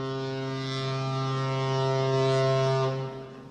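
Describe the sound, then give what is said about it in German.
A ship's horn at the harbour by the Columbus station (Columbus-Bahnhof) in Bremerhaven, Germany, sounds one long, deep, steady blast, loud and brassy with a rich buzzing tone, holding for about three seconds before cutting off into a faint tail. No one speaks. “Es war wirklich ein Zufall, dieser Gruß hier vom Columbus-Bahnhof in Bremerhaven.”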